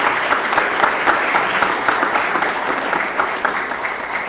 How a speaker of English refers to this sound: Our Team Hope members, please stand. Let's have a round of applause for these individuals.